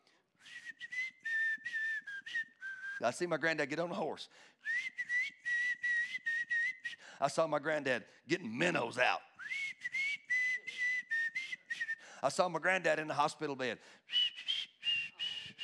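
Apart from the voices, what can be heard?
human whistling a tune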